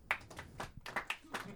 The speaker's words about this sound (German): Hat Tim Wiese eine Zukunft im Wrestling? Euer Applaus!